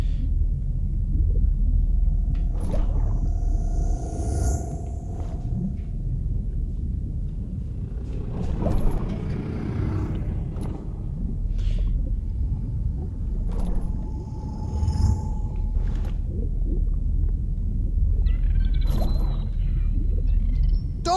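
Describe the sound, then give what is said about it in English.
In a video game, a low, murky underwater rumble fills the background while several drawn-out whale-like tonal calls and high whistling cries rise and fade at intervals, with no one speaking. “But we are underwater, and you have to dodge dolphins and whales and a bunch of other stuff.”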